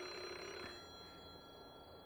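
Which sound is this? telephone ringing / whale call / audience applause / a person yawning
telephone ringing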